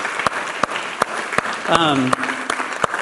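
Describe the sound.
A church audience applauds steadily for an absent man named Kevin, a dense wash of clapping punctuated by a few sharper, evenly spaced claps, while a voice briefly calls out over the noise.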